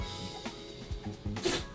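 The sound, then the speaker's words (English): A single sharp sneeze bursts out near the end, a quick hissing explosion of breath rising above a low, steady background hum with a few soft knocks. “Bless you.”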